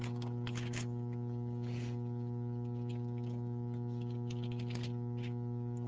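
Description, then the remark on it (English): An air conditioner switches on and hums steadily with a low, droning electrical tone where a preacher is preaching, scattered faint clicks and rustles over it and no one talking. “And I know it when the air conditioning goes on.”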